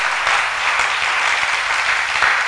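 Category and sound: crowd, audience clapping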